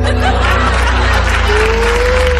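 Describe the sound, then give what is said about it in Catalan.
A crowd applauds steadily, the clapping blending with scattered laughter and murmuring voices, while a faint tone drifts in the background. “I la gent per què aplaudeix?”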